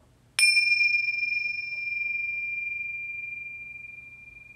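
A single bell strikes once with a sharp attack, then its clear, ringing tone hangs and slowly fades over several seconds in an otherwise quiet space.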